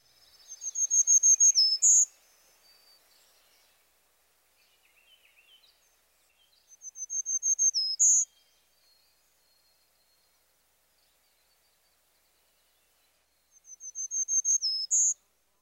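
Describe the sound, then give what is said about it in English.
Black-throated green warbler song: a high, buzzy phrase of wheezy notes, zee zee zee zoo zee, ending on an accented note, repeated three times with long quiet gaps, clear, with no other sounds. “The black-throated green warbler's high-pitched song is traditionally represented as zee zee zee zoo zee.”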